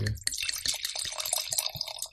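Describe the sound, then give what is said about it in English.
County Line rosé wine, made from Champagne clones of Pinot Noir grown in the Anderson Valley, poured into a glass: a steady stream of gurgling, splashing liquid with bright trickling detail that runs continuously for a couple of seconds. “So the County Line Rosé. I'm going to make you pour it there.”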